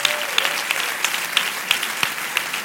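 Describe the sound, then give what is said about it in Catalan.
An audience applauds steadily, a dense wash of many hands clapping with a few sharper claps popping out, continuing without pause; applause on a stage for a musician who had played there with his band two hours earlier. “tremolo de pensar que aquí està …, tocant en la seva banda fa 2 hores, i, aunque no nos escolta, també demanaria un aplaudiment per al gran …, que ha estat aquí, ara.”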